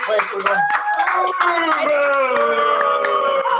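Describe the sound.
An audience applauds a quiz panelist on the broadcasters' side with steady, dense clapping for several seconds, mixed with sustained cheering and whooping voices riding over the claps at a loud, even level.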